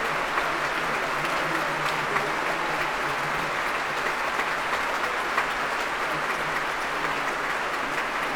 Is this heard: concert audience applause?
yes